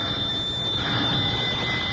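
An old-fashioned doorbell at an old woman's house rings continuously for about two seconds on a late spring day, a steady, high, metallic ringing over a rough rattling buzz, with no voices.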